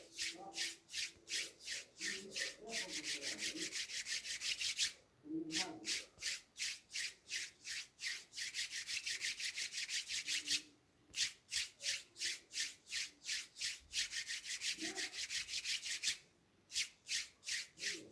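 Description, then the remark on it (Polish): Palms rub briskly together in a steady, rhythmic stream of dry swishing strokes, about three per second, with a few short pauses between runs and faint low murmurs underneath. “Moja propozycja? Pocieranie dłonią o dłoń.”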